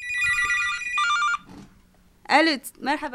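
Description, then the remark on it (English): A telephone rings with a bright electronic tone in two steady bursts, fairly loud, then falls quiet before a voice starts talking; an incoming phone call from a son who remained in northern Iraq. “A phone call brings the war front even closer.”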